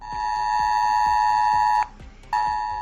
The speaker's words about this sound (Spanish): Otra de las provincias afectadas por la borrasca Claudia ha sido Ávila, donde la pasada noche recibieron la alerta en sus dispositivos móviles cuando se declaró el nivel rojo.